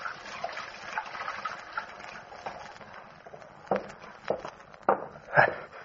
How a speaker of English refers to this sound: So I went into the tailor's little back room and took off my suit. Then I went over to the washstand and started to wash.